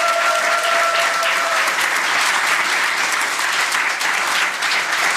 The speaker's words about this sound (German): Und jetzt gibt's einen schönen Applaus für alle.